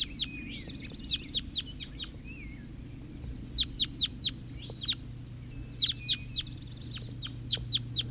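bird, wild birds calling

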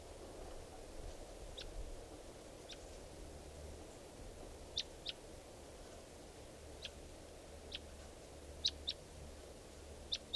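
bird, wild bird calling

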